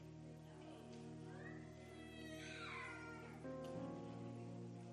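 A cat lets out a long, wavering meow that rises and falls, fairly clear, over a steady low droning hum in the background.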